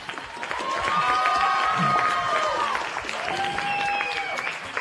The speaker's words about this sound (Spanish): gracias, os damos un aplauso.